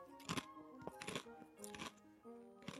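Crisp, crackly crunches of someone biting and chewing crisps, four loud bursts spaced roughly evenly, over a steady low tonal background.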